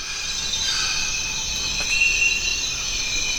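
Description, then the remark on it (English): Rainforest ambience on the Zabalo River in Ecuador's Amazon, a place largely free of human-made noise: steady, high-pitched insect and cricket drones layered in continuous bands, with a few faint chirps rising briefly above the unbroken, even hum; no voices. “Welcome to the Zabalo River in Ecuador's Amazon rainforest.”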